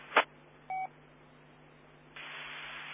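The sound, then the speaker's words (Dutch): A single short telephone dialing tone beeps once, just after a brief burst of static, over a steady background hiss that gets louder toward the end. No one speaks. “Want ik had net telefoon. En nu alweer.”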